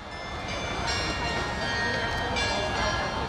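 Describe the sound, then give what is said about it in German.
Carillon chimes from the post office on Senado Square in Macau ring out in sustained, overlapping bell tones across the open square, steady and fairly loud, over a constant wash of tourist crowd murmur and outdoor bustle. “Vom Post an klingt das Glockenspiel.”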